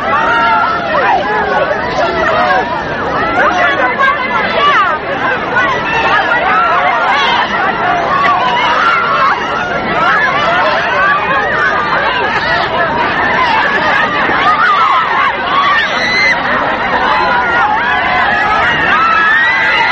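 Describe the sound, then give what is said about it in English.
A dense crowd chatters and calls out continuously as people shake hands with President Kennedy around the barricades after a Chamber of Commerce breakfast, many overlapping voices forming a loud, steady hubbub with occasional excited shouts rising above the din. “This is the crowd as they shake hands with President Kennedy.”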